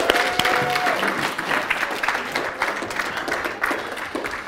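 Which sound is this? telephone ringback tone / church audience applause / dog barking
church audience applause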